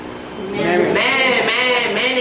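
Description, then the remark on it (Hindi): A man's voice mimics a goat's bleat, a loud, wavering nasal "meh" drawn out for about two seconds, pitch quivering and rising near the middle, alone. “बकरा माने”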